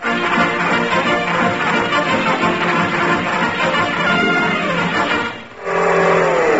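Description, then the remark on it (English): A car engine roars loudly and steadily, drops off for a moment, then revs back up with a rising whine as the car pulls away to chase a jeep. “Give me your car, Keith.”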